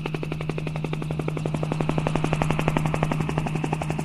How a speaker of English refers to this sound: think about what you're hearing during the show, other than actors talking or an audience member opening candy. Maybe it's a helicopter.